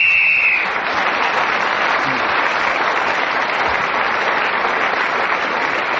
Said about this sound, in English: Well, that final whistle. Not only brought that round to an end, it also has brought the show to an end.